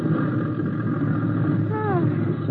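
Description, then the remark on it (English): A small plane's engine drones loudly and steadily, then gives a brief downward-sliding whine near the end as the aircraft throttles back and comes in to land in a small field. “I'm going to set her down.”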